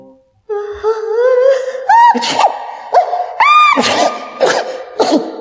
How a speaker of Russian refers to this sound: Запах был до того сильный, что Яков стал громко чихать. Так громко, что проснулся.